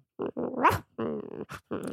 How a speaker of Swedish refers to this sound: Vet du att det ljudet av en snarkande hund, det är så himla fint.